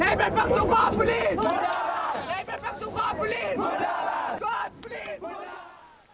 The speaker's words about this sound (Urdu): مظاہرین نے حکومت اور قانون نافذ کرنے والے اداروں کے خلاف نعرے لگوائے.